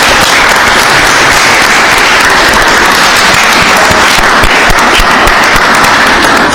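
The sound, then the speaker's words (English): Steady, loud applause from an audience for the new Philadelphia poet, a dense wash of many hands clapping that holds at full strength for several seconds without talking. “round of applause for the new Philadelphia poet.”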